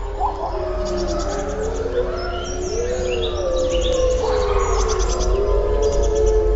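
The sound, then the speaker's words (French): A wolf pack howls in chorus, several long wavering voices overlapping and gliding up and down in pitch, with brief higher yips breaking through, steady and fairly loud throughout with no talking. “sans oublier bien sûr le célèbre hurlement qui permet de regrouper les loups de la meute et d'éloigner les autres meutes.”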